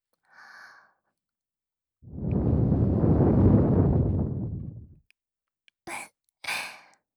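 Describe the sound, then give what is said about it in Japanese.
A long, airy breath blown into the ear, a steady breathy whoosh lasting about three seconds, followed by two quick short puffs of air. No talking. “お耳をふっとしたら、もっとドキドキしていただけるかなと思いまして。”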